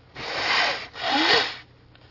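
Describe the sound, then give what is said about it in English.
Two loud, breathy nose blows in a row, each a harsh rushing honk lasting under a second, separated by a brief pause, with no talking. “Let me blow my nose.”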